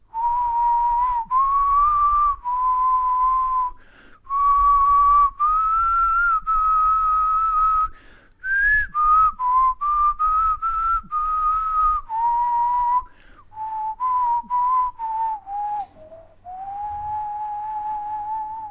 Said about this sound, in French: Papa, tu nous siffles quelque chose?